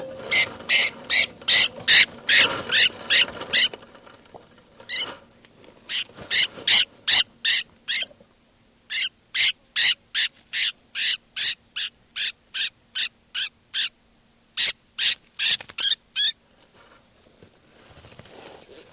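A handled bird, bird number 392, gives rapid, harsh, high-pitched calls in long rhythmic bursts separated by short pauses, fairly loud throughout with no voices.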